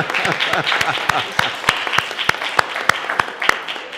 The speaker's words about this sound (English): That's okay. You can clap